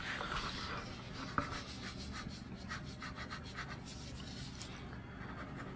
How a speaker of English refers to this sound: To understand what I mean by, do you have a piece of paper? Or you can just draw on that if you like.